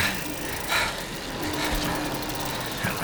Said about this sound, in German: Oh Mann! Sind die Autos größer geworden oder fahren sie nur schneller? Da kann man sich ja den Hals brechen bei dieser Raserei.